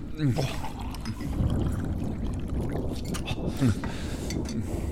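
Water pours steadily into a cup for several seconds, a continuous splashing and gurgling, with brief rising tones as the vessel fills.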